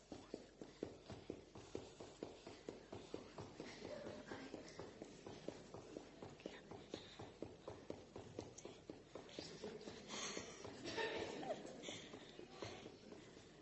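Rapid, steady footfalls of high-knee running in place during a timed 30-second challenge, with knee lifts being counted, pound out a fast, even rhythm, each thud sharp and regular, with faint background voices beneath.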